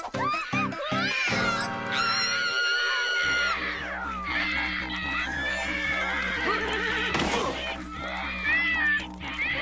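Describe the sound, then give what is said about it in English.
A horse neighs and whinnies loudly, again and again, while hooves clip-clop in a steady, busy rhythm underneath, continuing without a break throughout. “Control your horse much, Pickles?”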